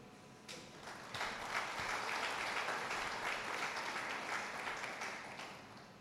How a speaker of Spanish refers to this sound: Un aplauso